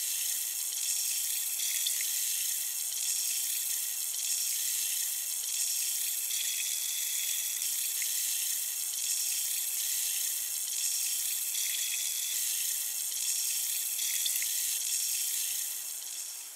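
A steady, bright fizzing of countless tiny bubbles crackling and popping, a dense hissy texture that holds level throughout with no voices, easing off slightly at the very end.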